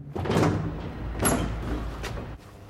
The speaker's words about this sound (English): then gently kicks open a set of doors leading outside.